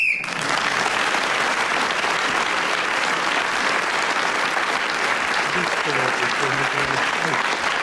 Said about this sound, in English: Well, Clement Freud was speaking as the whistle went, gained an extra point.